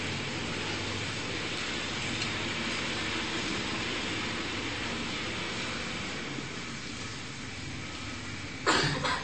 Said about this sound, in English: Except for noisy trucks during Bhagavatam class. We don't use those in service to Krishna.